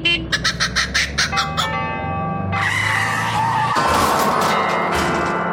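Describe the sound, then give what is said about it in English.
A comic sound-effect mash-up: a quick run of a kookaburra's chattering bird-like bursts, then ringing tubular bell tones, swallowed by a long loud skidding, crashing roar of a Hillman Minx car colliding, which swells again near the end. “That's a kookaburra in a Hillman Minx colliding with a set of tubular bells.”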